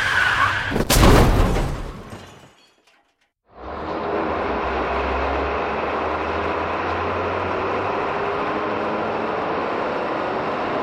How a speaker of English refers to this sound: Listen to that big loud diesel. Yep, that's the sound of my FedEx ground truck traveling northbound on Interstate 295, heading for the first stop of my route.